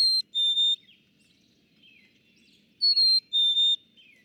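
A black-capped chickadee whistles its clear two-note spring song, a higher note sliding to a lower one, sung twice with a pause between, distinct over a quiet background.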